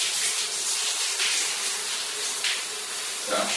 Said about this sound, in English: sent us 16 minutes of shower audio.